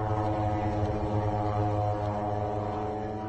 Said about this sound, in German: Mohammed Shu'er interessiert sich für das laute Dröhnen der israelischen Drohnen. Dieses Dröhnen sei in Beirut omnipräsent. Mohammed Shu'er nimmt diesen Drohnenlärm seit Jahren auf.